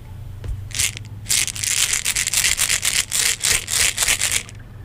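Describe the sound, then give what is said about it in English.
An egg shaker is shaken in front of a microphone in quick, steady rhythmic strokes, giving a bright, hissy rattle that runs for about four seconds over a low, constant hum, with no one talking. “If in case anyone just started listening, I'm going to shake it in front of the microphone again to give everyone a chance.”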